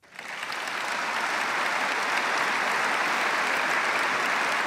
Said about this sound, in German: Der Applaus der Aktionäre dauerte eine knappe Minute. Anerkennung für einen Unternehmenschef von Weltrang, wie es der Aufsichtsratsvorsitzende vorab formulierte.